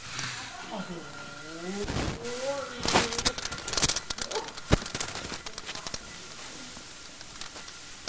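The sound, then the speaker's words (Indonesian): A tiger roars in drawn-out, wavering growls that rise and fall, followed by scattered sharp bursts and rustling noise, moderately loud. “Harimau ini milik Tuhan Yesus”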